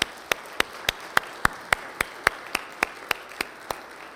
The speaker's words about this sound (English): And I think that we as a congregation need to encourage all of those who are quizzing, all of our coaches, all of our volunteers. Let's give them a good round of applause this morning for their hard work.